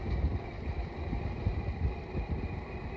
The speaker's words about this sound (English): Now, number 43, you'll hear his chug as we pass him by. He's one of the very oldest of the cars in the run.